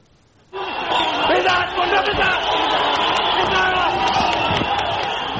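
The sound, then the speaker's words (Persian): A large crowd of spectators at a sports ground in Kabul, Afghanistan, cheering on their athletes on the night of 12 February 2021, cheers and roars continuously after a brief quiet start, a dense wall of shouting voices with whoops and occasional thuds, sustained and loud throughout. “شور و شادی تماشاچیان در میدان ورزشی در کابل پایتخت افغانستان. تماشاچیان ورزشکار مورد نظر خود را تشویق میکنند.”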